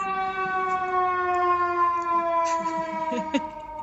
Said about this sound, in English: It's just a fire truck.